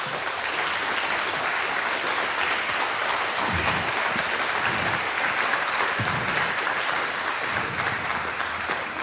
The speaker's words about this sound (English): I would say, let's first start with a big round of applause.